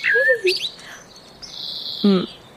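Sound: small bird chirping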